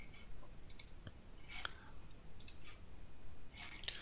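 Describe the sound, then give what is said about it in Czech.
A few short, dry mouse clicks spaced irregularly over a faint background hiss, fairly quiet, with no talking, as someone clicks a notification on a computer to open its app. “Pokud na oznámení kliknu, spustí se mi aplikace, která k tomu oznámení patří.”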